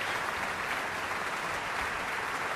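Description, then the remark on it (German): Dense, steady, enthusiastic applause from a large audience in the great concert hall of the KKL at the Lucerne Festival, for singer Thomas Hampson after his encore, a continuous crackling wash of many hands clapping at once with no voices standing out, sustained and even throughout. “Noch einmal begeisterter Applaus für Thomas Hampson und die Zugabe am Lucerne Festival.”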